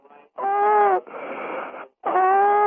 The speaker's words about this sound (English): He's still having a hard time breathing.